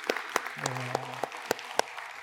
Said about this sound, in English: And so can we just give one more round of applause for everybody that was involved?